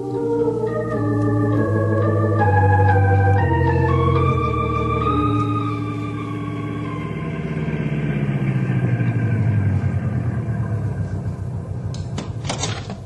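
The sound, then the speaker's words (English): A car engine revs up through a few gear shifts as it sets off down the road, then its droning pitch slides lower as it pulls away, with a couple of sharp clicks near the end. “Henry will take you there in the car.”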